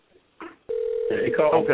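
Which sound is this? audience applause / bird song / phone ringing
phone ringing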